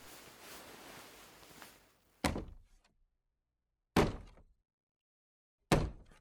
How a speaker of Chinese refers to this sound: 对了，我用脚蹬这个玻璃门来发出声响，他如果走近的话，肯定能听到这里的响动。